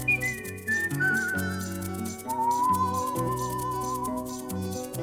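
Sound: human whistling a tune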